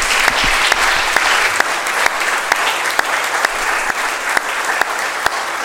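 Steady, sustained applause from a church audience for those who served in a ministry to children, a dense wash of clapping with a few sharper individual claps standing out, continuing loudly throughout without any talking.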